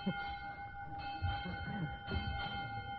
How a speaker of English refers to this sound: All right, there goes the bell, children, and that means that school is over for today.